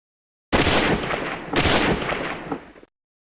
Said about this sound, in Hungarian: Két lövés eldördült, a kanca felágaskodott, fájdalmas vihogást hallatva, aztán összeesett